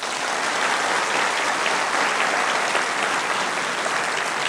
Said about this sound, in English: And now, before our final item, I'm sure we all want to say a great big thank you and give a warm round of applause to Mrs. Perkins and the ladies of the WI.